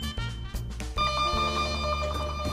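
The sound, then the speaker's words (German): A doorbell at a home rings with a bright, sustained electronic chime, a short run of ringing tones followed by a longer held note, clear and fairly loud with no talking. “Da klingelt's schon.”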